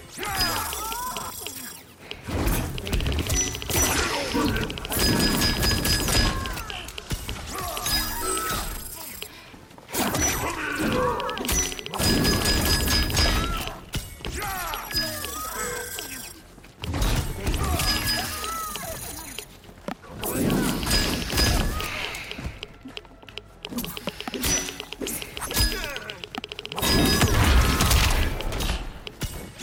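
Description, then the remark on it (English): Loud video game fight sounds: a rapid series of heavy punches, smacks and crunching impacts in dense bursts as a character punches an opponent airborne, yanks them back with her tail and punches through their abdomen, with brief pauses between flurries and a busy, layered effects mix throughout. “Punches the victim airborne, then yanks them back with her tail to punch through their abdomen.”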